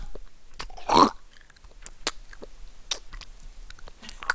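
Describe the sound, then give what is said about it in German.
Wet mouth smacking and lip noises made into the microphone as a relaxation sound, a cluster of sticky clicks and pops with one louder squelchy smack near the start, no talking. “Wenn mir einer ins Ohr schmatzt, so eine Knistertüte aufmacht.”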